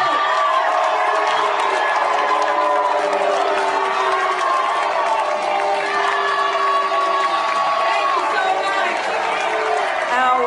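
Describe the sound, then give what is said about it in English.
A loud, constant roar of protesters booing and heckling Debbie Wasserman Schultz at a Florida delegation breakfast on a Monday morning, many voices shouting and jeering together for the full stretch with no break in the din. “On Monday morning, protesters booed and heckled Wasserman Schultz at a Florida delegation breakfast.”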